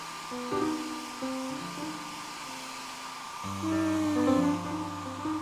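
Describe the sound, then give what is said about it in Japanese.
A hair dryer blows steadily with an airy whoosh and a humming motor whine that shifts in pitch, getting a bit louder toward the end, as a brother dries his sister's hair. No voices are heard. “そんなドライヤー使わなくてもすぐ乾くんだけどね。”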